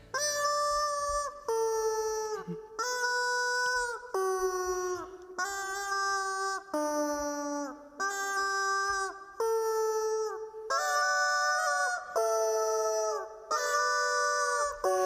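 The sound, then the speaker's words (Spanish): A rubber bath-toy chicken, played by South Korean YouTuber Big Marvel, squeaks out Pachelbel's Canon in a steady series of loud, nasal, harmonic-rich honks, each note held about a second with short gaps, the pitch stepping up and down like a tune. “El autor es Big Marvel, un joven surcoreano que se ha hecho mundialmente famoso porque interpreta canciones con un pollo de goma, sí, de estos que metes en la bañera o le das al perrito para que juegue.”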